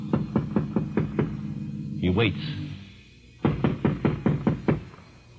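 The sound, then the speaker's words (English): Roy warily knocks on the front door of the Gary Buell home, a few miles from town, at 2 o'clock: two rounds of firm knocking, each about six quick raps, separated by a short pause where a man briefly speaks. “Roy goes to the front door, warily, and knocks.”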